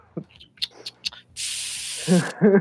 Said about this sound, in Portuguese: Se você ouvir com atenção, você ouve a bolinha do spray.